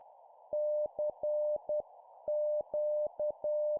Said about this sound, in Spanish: Pero entonces, algo distinto rompió el silencio, un pitido rítmico, rápido y pausado que sonaba como un lenguaje extraño.